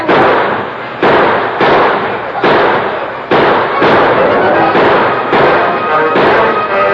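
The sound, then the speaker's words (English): A sheriff and his deputies exchange gunfire with outlaws: a rapid, sustained volley of gunshots, sharp loud cracks fired roughly every half second or so, overlapping into a continuous noisy barrage with no voices. “And the sheriff and his deputies returned the fire.”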